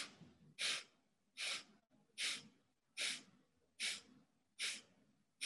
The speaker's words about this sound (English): Hold the breath out. Inhale. Hold. Exhale, 8 sniffs.